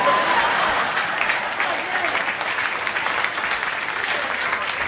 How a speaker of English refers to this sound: We're clapping in appreciation now.